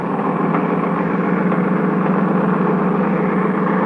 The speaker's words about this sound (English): Okay. Turn over the engine.